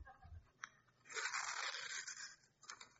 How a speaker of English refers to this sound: Like if I put stress on this paper, it begins to rip and tear, right? I'm stressing it.